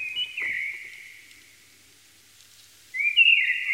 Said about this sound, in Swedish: Och innan dess så ska den här lite ödsligt klingande fågelsången få lite uppmärksamhet. Det är inte koltrast, men det är någonting närbesläktat.